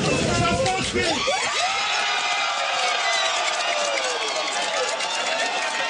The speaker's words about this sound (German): Und trotzdem, man hat es eben im Hintergrund schon gehört, die Leute haben gejubelt. Ja, da war irgendwie Jubel. Ist bei dir auch gejubelt worden? Ja, das war allerdings weniger leise.